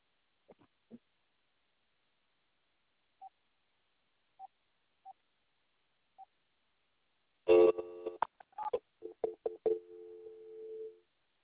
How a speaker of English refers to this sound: Oh, the dial tone.